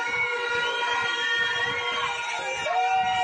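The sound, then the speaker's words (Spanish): A loud, dense street protest at the doors of the Teo town hall (Concello de Teo) as the monthly council session ends, aimed at the mayor: sirens wail and sweep in pitch over a constant din of horns, shrill whistles and indistinct crowd shouting, sustained throughout. “Como bien podéis comprobar, tenemos bocinas, tenemos sirenas, tenemos silbidos, tenemos gritos y todos ellos dirigidos hacia una misma persona.”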